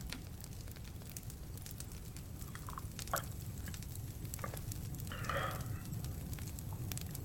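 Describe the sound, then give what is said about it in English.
A wood fire crackles steadily, with sharp irregular pops and snaps over a low, constant rumble of burning, and a brief brighter hiss near the end. No one speaks. “Probably won't need to stoke it with a wee poker or add any more firewood.”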